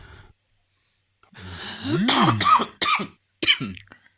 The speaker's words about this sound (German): Oh, oh Mann. So husten hier. Ja, das ist, weil du bist zu viel unter Deck. Du musst öfter mal in die frische Seeluft raus.